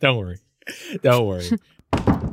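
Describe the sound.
A person vocally imitates a creaking door, with drawn-out, strained voiced sounds that rise and fall, followed by a short breathy, rasping burst. It is fairly loud.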